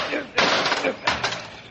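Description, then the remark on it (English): Two heavy metallic blows ring out as an old rusty padlock is smashed in a ghost town, each strike a sharp crash followed by a brief rattling decay, spaced well under a second apart. “Now wait till I smash this old rusty padlock.”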